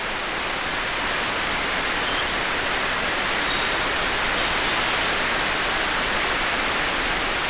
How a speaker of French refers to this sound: Après les sonnailles des vaches gasconnes, tout à coup, une ondée de pluie.